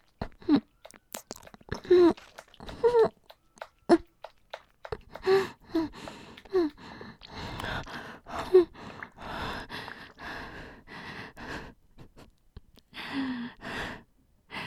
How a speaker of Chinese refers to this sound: 学的挺快的嘛，现在喘气不是很自如。